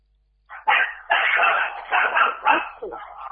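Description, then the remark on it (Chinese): A dog kept at a home barks several times in quick, uneven succession, short sharp yaps, fairly loud, with no talking over them. “你看，家里嘛还养狗，你跟畜生。”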